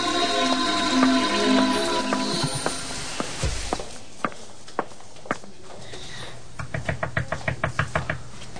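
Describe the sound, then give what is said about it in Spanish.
Footsteps walk along, then a fast run of sharp knocks near the end, like a fist rapping repeatedly on the door of hotel room 203, fairly loud with no voices. “Hola, ¿quién está ahí? ¡Soy yo! ¡Ábrame la puerta!”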